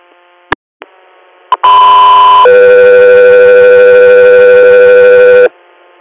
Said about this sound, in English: … here, standby for tones.